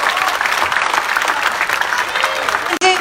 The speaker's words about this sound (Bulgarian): Аплодисменти за всички, наистина беше, момента е страхотен.